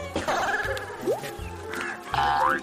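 A goat gives a few loud, wavering bleats with rising and falling pitch, including a long quavering one near the end, separated by brief pauses.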